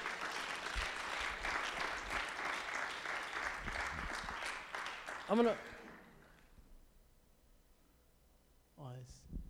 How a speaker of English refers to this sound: Can we give the Lord a good clap offering here this morning?